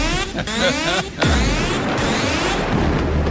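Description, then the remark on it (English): Booming cannon fire with a heavy, low blast about a second in, surrounded by loud, rumbling crashes and whistling tones that fill the whole short stretch. “Fire the cannons again!”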